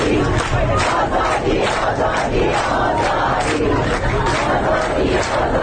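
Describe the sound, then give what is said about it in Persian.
A large protest crowd of people from Shiraz and Kazerun, Iran, gathered in front of the provincial governor's office on Thursday against repeated water and power cuts, shouts slogans such as "Water, electricity, life" in unison, a loud, dense roar of voices with a steady, rhythmic chanting pulse throughout. “آنها پنجشنبه روبروی استانداری جمع شدند و حق مسلم خود را فریاد زدند.”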